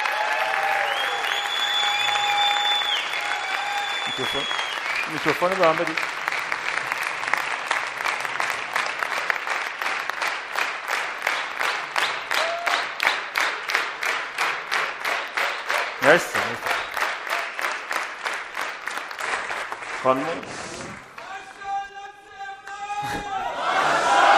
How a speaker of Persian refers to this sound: خواهش می‌کنم تشویقش کنیم.